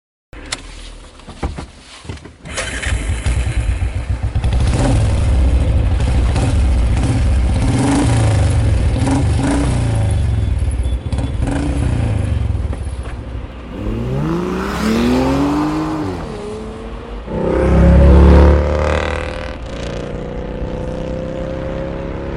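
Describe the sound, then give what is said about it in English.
A car engine starts up and rumbles steadily, then revs with rising pitch and roars louder as it accelerates away, with no voices. “Come on, get in the car. Do you want to drive, or would you prefer me to drive?”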